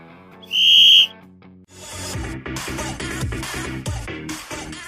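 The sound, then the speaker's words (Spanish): A single sharp, loud referee's whistle blast, about half a second long, sounds over a soft musical intro to signal the start of the programme, and then upbeat music kicks in at full volume. “y sin más preámbulos llega el momento de hacer sonar el silbato de inicio del encuentro, que dé comienzo el programa 3x08.”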